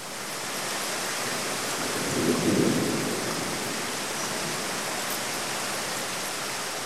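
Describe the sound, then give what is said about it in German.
Steady, dense rainfall hisses throughout, with a low rumble of thunder swelling briefly in the middle before fading back under the rain. No voices. “Welch Wohltat bringt uns der Regen?”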